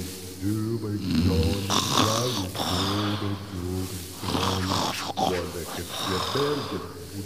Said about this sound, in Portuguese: Se a história era chata, ele roncava encostado no tronco da árvore, usando o capacete como travesseiro.